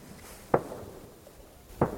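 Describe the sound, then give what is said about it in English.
Two gunshots crack out about a second apart, each a sharp bang with a short echoing tail, echoing around a fjord at Qaarnaaq, Greenland, during reindeer hunting season, over a quiet outdoor background with no voices. “Can hear the gunshots echoing around the fjord.”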